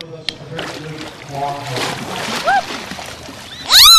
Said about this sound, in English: She might splash you a bit. And she's a very vocal whale.